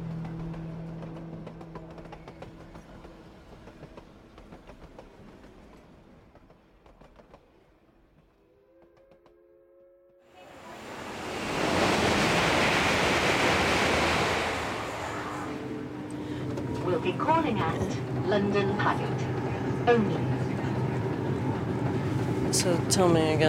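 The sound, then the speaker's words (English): Steady low rumble and a humming drone inside a moving passenger train on the way back from Slough, then a loud rushing roar swells in halfway through and persists with rattling clatter, faint voices murmuring underneath. “are on the train back from our visit to Slough, and now we're riding the same line”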